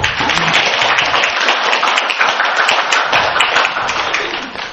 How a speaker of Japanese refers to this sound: はい、感謝します。拍手で。